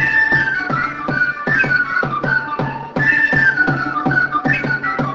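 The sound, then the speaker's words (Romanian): An ensemble of fluier folk flute players from an aesthetic education centre in Chișinău, Moldova, plays a lively, bright piece dedicated to spring together in short rhythmic phrases, with a low steady accompaniment underneath, loud with no voices, opening a mărțișor exhibition. “Cu această piesă dedicată primăverii, ansamblul de fluieriști ai Centrului de Educație Estetică Lăstărel din Chișinău a deschis prima expoziție de mărțișoare din Republica Moldova.”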